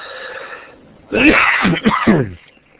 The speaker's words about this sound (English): Sorry, I'm having to cough a little bit.